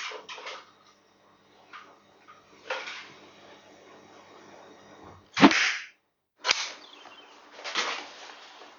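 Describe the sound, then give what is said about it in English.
An arrow is shot, misses the target and slams into a breeze block that bursts apart with a loud crack and crumbling debris, among several sharper whooshing impacts. No one speaks. “Try to hit my target and not the exploding breeze block inexplicably placed nearby.”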